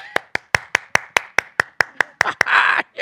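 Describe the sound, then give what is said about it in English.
A single person claps steadily, about a dozen sharp, evenly spaced claps, ending in a brief burst of louder, noisier sound. “Nobody else is clapping.”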